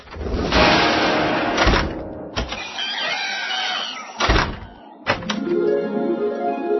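Several doors open and close in quick succession, each ending in a solid thunk, with a faint mechanical whir and rattling between the slams. No one speaks.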